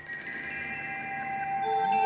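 Sustained, shimmering bell-like tones ring together with bright, glassy overtones, a soft chiming texture of glockenspiel and glass harp held steady with no voices, opening an experimental ambient folk track by a German group.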